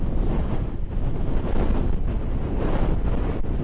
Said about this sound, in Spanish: Los efectos de la borrasca Luis que obligan a cerrar los arenales. Pero quizás lo que más molesta en el paseo son las rachas de viento fuerte que se han registrado durante toda la mañana.